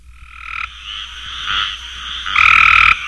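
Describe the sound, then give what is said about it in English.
A chorus of great tree frogs calling steadily, with bright buzzy trills rising and falling in intensity and swelling louder near the end, over a low rumble of background noise. “The great tree frog is not vastly different from that of the population in North Carolina.”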